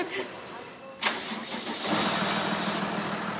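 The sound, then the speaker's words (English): The engine of a mobile CT scanner unit truck in a garage cranks over with a sharp burst of ignition, then settles into a steady, rumbling idle, its low drone filling the space, as the unit heads out onto the streets. “Then the mobile unit hits the streets.”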